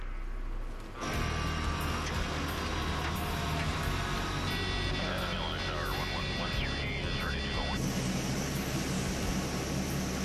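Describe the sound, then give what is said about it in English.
An Electra propeller airplane's engines roar up abruptly after a brief quiet moment as it heads out north, then hold a loud, steady drone with a high whine over a deep throbbing hum. “Finally, after a day of delays, the Electra is heading north.”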